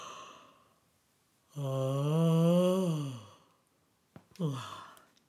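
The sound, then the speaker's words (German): A voice imitates a bear's yawn: a long, deep, drawn-out groaning yawn with a wavering pitch, followed by a shorter, quieter sighing breath after a brief pause. “Auch der Bär gähnte.”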